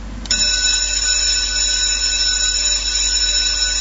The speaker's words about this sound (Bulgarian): Днес е първият учебен ден на училище. Тръгват 63596 първокласници. Училищният звънец бие от днес в 2414 училища.